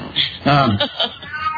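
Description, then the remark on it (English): A Persian cat lets out one loud, drawn-out meow, its pitch bending up and then down, followed by a quieter trailing cry and faint background noise. “My Iranian cat to be quiet.”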